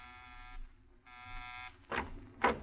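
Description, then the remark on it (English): An apartment door buzzer sounds twice, two harsh, steady electric buzzes of about half a second each, followed by two short noisy bursts over a low background hum. “You pause for a moment before you buzz.”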